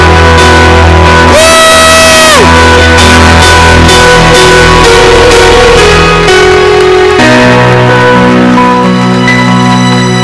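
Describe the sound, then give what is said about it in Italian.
An audience claps and cheers steadily for a family over loud sustained music, with one high whooping shout rising out of the crowd early on before the applause carries on to the end. “Vogliamo dare un forte applauso a questa famiglia.”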